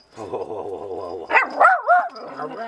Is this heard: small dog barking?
yes